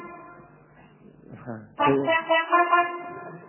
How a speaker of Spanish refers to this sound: La bocina. Justo, la bocina de avión, la famosa. Cuando vamos a tirar algo, tocamos la bocina.